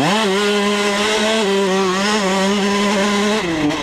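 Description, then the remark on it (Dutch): A loud motocross motorcycle engine whines at a high, steady pitch for several seconds, wavering slightly, then its tone dips briefly near the end. No one speaks. “Vroeger heb ik zelf ook een motocross machine gehad.”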